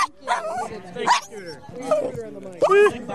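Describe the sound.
A dog named Scooter barks close to the microphone while being interviewed, giving a few sharp, whiny yips and barks in short bursts while a person talks alongside.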